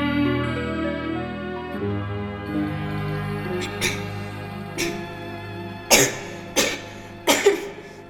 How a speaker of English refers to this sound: Are you all right? I can't stop coughing. I was wondering if you had a sea lion in bed with you. They sometimes sound that way.